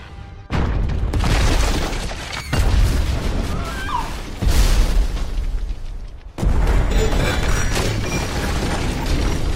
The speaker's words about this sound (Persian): با این تصاویر زندگی آزاردهنده، تنها کلمه‌ای که به ذهنم میاد اینه که اون انفجار از سمت اون ماشین میاد.